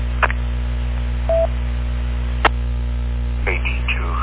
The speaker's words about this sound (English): I also just got a landline, so I'm going to be off for a few minutes while I pick up my landline.